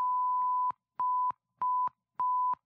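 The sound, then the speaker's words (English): Morse code beeps for the digit one: four clear, steady mid-pitched tones with short gaps between them, the first held noticeably longer than the rest. They are prominent, with no voices. “There's a sign for that, which is short, long, long, long, long.”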